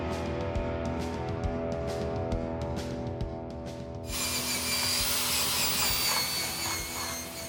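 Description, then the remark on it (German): A power grinder whines steadily, then bites into metal with a loud, harsh, hissing rasp that continues for the second half as a young man grinds rust off the frame of an old caravan in a front garden on the outskirts of Leeuwarden. “In einem Vorgarten am Stadtrand von Leeuwarden schleift ein junger Mann konzentriert das Gestell eines alten Wohnwagens ab.”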